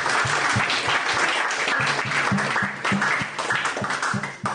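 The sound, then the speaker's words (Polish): Sustained applause from a crowd in honour of the writer Reymont, a dense steady clatter of many hands clapping at once, loud throughout with a slight dip near the end, and a few faint voices mixed in. “Brawa dla niego są, mam nadzieję.”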